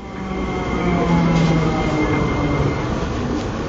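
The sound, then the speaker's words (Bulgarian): A Sofia Metro subway train in Sofia, Bulgaria, rumbles steadily along the tracks, a loud, continuous low roar with faint tonal whines layered on top, with no talking. “Макар към днешна дата Софийското метро да върви само от Обеля до площад Света Неделя, пътникопотокът е над 80 000 души дневно и хората са доволни от подземния транспорт.”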